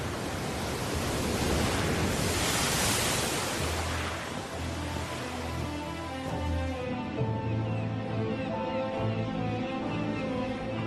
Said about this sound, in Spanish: Entre su violento oleaje se alza en el mar la isla de Helgoland.